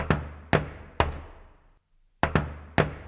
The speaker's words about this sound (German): Im Augenblick, der gseit's grad da, steht er vor dem geschnitzten Tor. Er hebt den Klopfer.